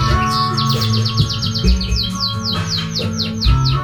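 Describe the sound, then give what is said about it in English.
A pet bird sings along to a song in a rapid, steady string of bright chirps and whistles. The music plays in the background, and the bird's calls sit clear on top of the song. “I think it might be a good idea if any of you've got birds, dogs or cats that want to sing along with that song,”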